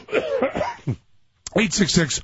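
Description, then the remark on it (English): A man with a cough he has had for three weeks coughs, fairly loud, in short harsh bursts before and after a brief pause, with voiced, speech-like sounds around them. “By the way, I've had this cough now for 3 weeks, so I'm getting used to it.”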